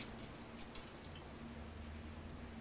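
Alcohol is poured steadily down a kitchen sink drain, a soft continuous splashing trickle with faint low hum beneath, heard fairly quietly with no voices.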